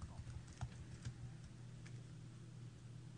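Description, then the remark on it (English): Quiet, quick typing on a keyboard, a loose run of soft key clicks bunched in the first half, over a steady low hum, with no voices. “Hello, typewriter.”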